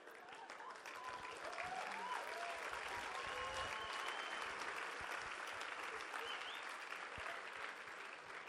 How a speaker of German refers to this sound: Das war jetzt ein unnötiger Applaus.